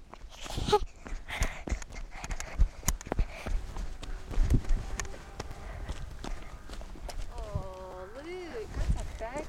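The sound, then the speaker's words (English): Hooves of a walking horse clip-clop in irregular knocks, mixed with rustling movement outdoors, while people talk over them, a voice rising clearly near the end. “Look, who's this here? A horse! I told you it horses!”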